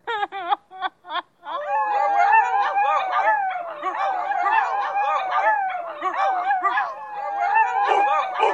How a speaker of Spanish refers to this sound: En un determinado momento, en un pueblo muy, muy, muy lejano, se agruparon cierta cantidad de perros a discutir de cierto tema.